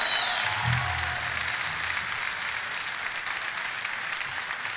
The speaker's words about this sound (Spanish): Bueno, un aplauso por este que realmente es para ustedes. Gracias.